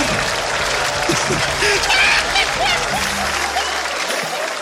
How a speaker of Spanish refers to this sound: Un fuerte aplauso para